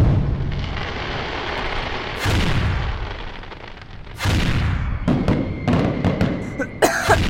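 Many fireworks rockets, launched one after another into the foggy sky over the Schanzerkopf hill, burst over a constant rushing hiss: two heavy booms a couple of seconds apart, then a rapid cluster of sharp cracks and pops toward the end. The explosions bathe the hill and a building in a glittering red glow. No one speaks.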